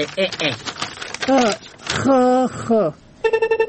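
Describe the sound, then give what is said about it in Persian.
A person talks, then the speaker's phone starts ringing near the end with a steady, rapidly pulsing electronic tone, fairly loud. “یک دقیقه صبر که تو کمی زنگ تلفنم جواب بتون.”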